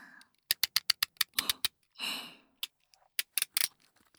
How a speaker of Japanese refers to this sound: 左右の両耳の耳元でテープが切れていく音に聞き入ってくださいね。